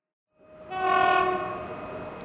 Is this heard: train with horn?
yes